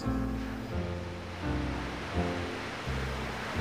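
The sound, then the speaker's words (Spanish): A river flows steadily with a continuous broad rush of water, moderately loud, while a low tonal drone shifts pitch underneath. No one speaks. “A lo lejos, los perros y el río la acompañan sin cesar.”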